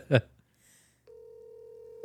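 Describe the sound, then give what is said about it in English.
A brief vocal blip, then a steady electronic ringback tone from an outgoing phone call on speakerphone starts and holds, moderately loud, until the end. “It's ringing.”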